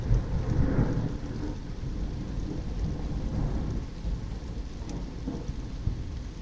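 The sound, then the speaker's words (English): Deep thunder rolls and rumbles through steady, heavy rain outdoors after a massive lightning strike, the low booming swelling and fading over the constant hiss of the downpour. No one speaks. “Okay, massive piece of lightning there. Much bigger than the one previous.”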